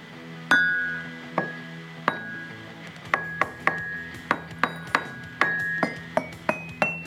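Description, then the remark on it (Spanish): Small glass and porcelain pieces clink together in a series of bright, ringing taps, starting sparse and then coming quicker, about a dozen clear hits with short resonant decays and no talking. “Y lo que más me gustó fueron estas cositas de vidrio y de porcelana.”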